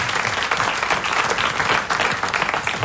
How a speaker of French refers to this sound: Parfait, on vous remercie, on vous applaudit. Bonne compétition à Bourges ce week-end.